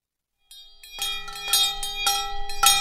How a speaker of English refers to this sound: It's Sunday morning. The Reverend Stephen Blackmer is ringing two large hand bells. He's calling his congregation back from silent meditation.